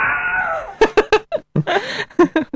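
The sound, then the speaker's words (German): A voice mimics a karate fighter's battle cry given before striking: a drawn-out shout that falls in pitch, followed by a quick string of short, choppy vocal bursts. “Und sie machen auch immer gerne einen Schrei, bevor sie zuschlagen. Aja! Ja, einen Schrei, ungefähr so.”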